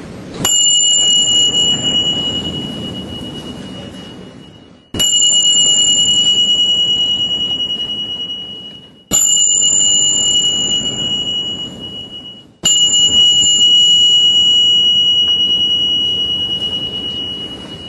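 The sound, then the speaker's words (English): Tingsha chimes are struck four times, about every four seconds, each producing a bright, piercing metallic ring that sustains and slowly fades before the next strike. The chimes are loud, with no talking. “And then I've got some Tingxia chimes here. They're really great for clearing space.”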